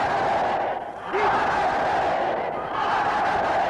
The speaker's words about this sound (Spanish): E inmediatamente hay un fundido, bueno, el aplauso de las multitudes